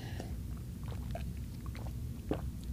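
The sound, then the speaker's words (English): Someone drinks water, with a few soft gulps and swallows and a small slurp near the end, over a steady low hum. No one speaks. “Throat's getting dry. I gotta drink water.”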